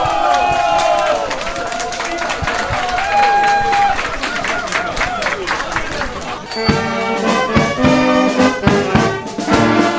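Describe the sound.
A crowd at the train station in Iłowa claps steadily and loudly for the full ten seconds on a Sunday evening at 21:15, welcoming the first Warsaw–Żagań train in over a decade, with scattered cheering voices mixed in and a high squealing tone, like train brakes, audible near the start.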